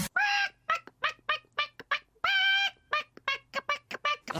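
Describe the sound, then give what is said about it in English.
A hen clucks in a quick, uneven series of short harmonic bursts, with two longer drawn-out squawks standing out among them, fairly loud with no talking. “I think that's it's a chicken. A hen.”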